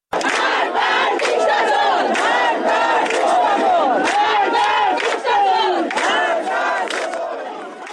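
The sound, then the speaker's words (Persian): A large crowd of citizens in Izeh, Iran, gathered on Friday at the grave of Hamed Salahshoor for his third-day memorial, chants slogans against the Islamic Republic in unison, loud and continuous, with rhythmic rising and falling shouts across many voices and no single speaker standing out. “جمعی از شهروندان ایزه هم روز جمعه بر مزار حامد سلحشور گرده هم اومدن و مراسم سوم اونو با سر دادن شعار علیه جمهوری اسلامی برگزار کردن.”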